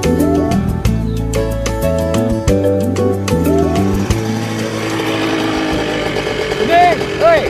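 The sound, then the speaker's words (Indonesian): A loud motorcycle engine revs hard, its pitch jumping up and down in repeated throttle blips before settling into a rougher, noisier rumble toward the end. “kuping yang tidak terganggu oleh suara motormu yang meraung-raung itu”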